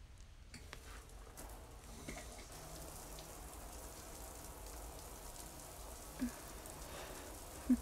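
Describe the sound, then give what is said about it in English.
Steady, hissing rush of running water, like a shower spraying, continuous and fairly even throughout with a couple of faint brief clicks near the end. No one speaks. “Hold on, let me turn on the water real quick.”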